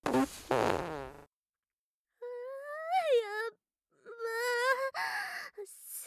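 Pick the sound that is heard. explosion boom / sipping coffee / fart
fart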